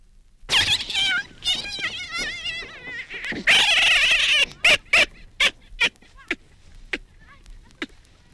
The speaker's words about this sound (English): But what happens if a male grabs a juvenile and holds it to the ground? The male makes no sound at all, but the juvenile gives a pitiful scream and then makes a sort of yacking sound after the male turns it loose.